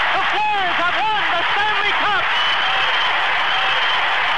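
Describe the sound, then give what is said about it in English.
A loud, sustained arena crowd roar of cheering and applause as the Flyers win the Stanley Cup, with individual voices whooping and shouting in rising and falling cries during the first two seconds before blending into a steady dense din. “I mean, listen to that crowd.”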